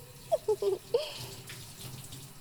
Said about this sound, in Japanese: さてさて、お次は体の方もシャワーで流していくっすね。